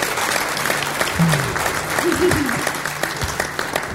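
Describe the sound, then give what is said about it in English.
At the Far West event, a crowd applauds steadily for the people who make the event possible, a dense wash of clapping that stays loud and even throughout, with faint voices and brief shouts rising above it. “Let's give a round of applause to the people who make this possible.”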